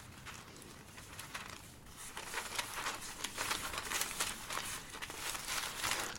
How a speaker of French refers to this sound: Je vais lentement parce que je suis obligé, vous voyez, c'est du papier très fin qui est fragile, donc on est obligé de manipuler ça avec soin.